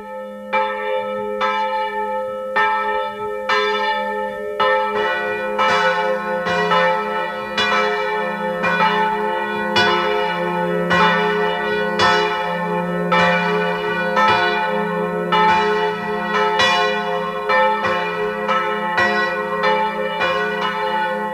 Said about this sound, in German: Es ist 12 Uhr. Sie hören die Glocken der evangelischen Pfarrkirche von Unterschützen im Burgenland.